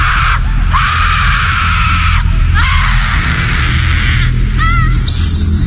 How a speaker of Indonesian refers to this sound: Tiba-tiba terdengar suara teriakan seorang perempuan menjerit kencang sekali. Iya, suara teriakan itu sangat kencang.